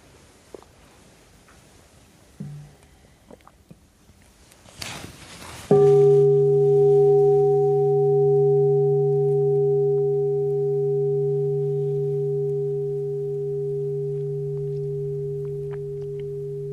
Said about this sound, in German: Kann ich eine Glocke haben?